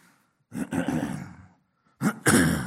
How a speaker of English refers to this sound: I should have prayed in Jesus' name that the Lord would help me not to cough.